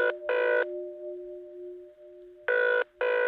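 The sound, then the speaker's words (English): A telephone rings on the other end of a line during a call to Eric Rabe, the Hacking Team's spokesman: two double bursts of a trilling ring separated by a steady tone, clear and fairly loud, with no voices. “Which is why I was so surprised when Eric Rabe picked up the phone.”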